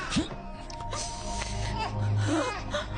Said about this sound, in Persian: اما نه همون گریه واسه چی؟ عزیزم گریه نکن. اونی که باید گریه کنه بابا تو.